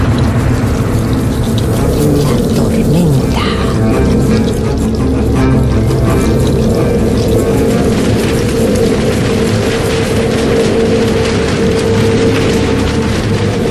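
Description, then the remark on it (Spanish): A sudden heavy summer rain downpour roars steadily, a dense wash of water with fine crackling patter running throughout, loud and unbroken, with no voices. “Las nubes se aprietan unas con otras y descargan con furia en un instante un mar de agua.”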